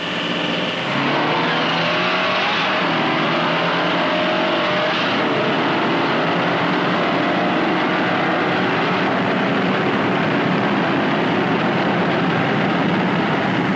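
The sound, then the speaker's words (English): Two cars, one of them an Impala, roar off in the second heat of a full-throttle acceleration test. Their engines whine and climb steadily in pitch as they pick up speed. The loud, continuous racing noise fills the whole stretch with no talking. “Same cars, second heat.”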